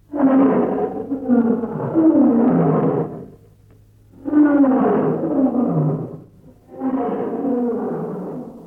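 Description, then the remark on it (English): Three long, loud lion roars in a row, each a rough, rumbling bellow lasting a couple of seconds with brief pauses between, heard on their own. “When lion can't shout, when he can't make sound, the thing they make the other animals to begin to fear, them body go they shake”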